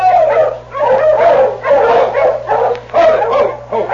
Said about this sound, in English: Oh, these dogs look as if they've come a long way. Easy, King. Quiet, fellas.